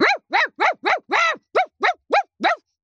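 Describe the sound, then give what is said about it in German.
A person imitates an aggressive dog, letting out nine loud, harsh barks in quick, fairly steady succession, one slightly longer growling bark in the middle, with no other talk. “Ich zum Beispiel kann sehr gut bellen. Ich gebe mal kurze Kostprobe.”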